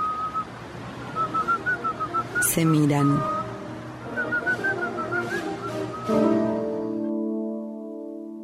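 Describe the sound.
A man whistles a lilting tune in short, melodic phrases as he walks past, pausing briefly mid-way as someone speaks a few words, before ending on sustained musical tones.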